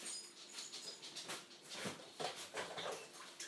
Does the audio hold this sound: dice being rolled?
no